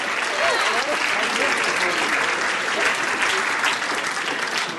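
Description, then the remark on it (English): A church audience applauds the life group leaders called out to the front, clapping steadily for several seconds in a dense, even wash of many hands at a fairly loud, constant level with a few faint voices mixed in. “Let's give them a great big clap.”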